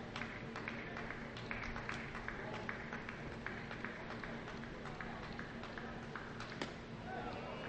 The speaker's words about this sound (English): Strike on the corner on the cutter. Elicits some mumbling from the crowd. Did clip the corner.